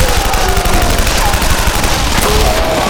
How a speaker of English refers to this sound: Gunfire filled the hall.